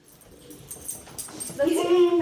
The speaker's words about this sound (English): We're in a little house on a hill in northwestern Oregon on a comfy couch with throw pillows, a little dog named Muffin running around.